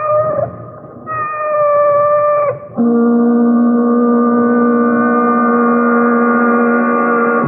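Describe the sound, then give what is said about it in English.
A cat gives a long, drawn-out meow, loud, its tone shifting in pitch before holding steady as a sustained, wailing cry for several seconds. “She's only a cat.”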